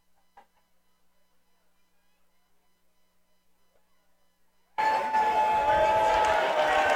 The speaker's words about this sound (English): Somebody goes and grabs that ball, and everybody's cheering as well, because it's always a sight for fans